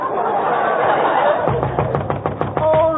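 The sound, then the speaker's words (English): Laughter and crowd murmur fill the first half, then a quick series of sharp raps on a door, several knocks in a loose rhythm, heard through a muffled, narrow-band recording. “at the door. Who is it?”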